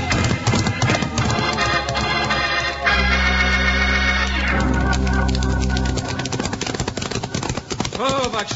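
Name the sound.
horse hooves galloping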